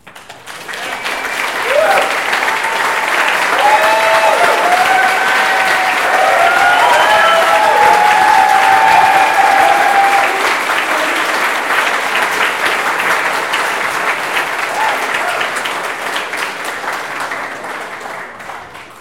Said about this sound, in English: Let's just applaud him one more time.